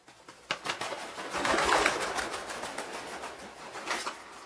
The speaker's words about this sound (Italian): Pallide colombe lasciano in volo notturni rifugi nei mattoni forati e sotto i tetti.